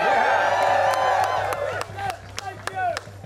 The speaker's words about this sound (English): We founded this back in 2016. Y'all can cheer for that.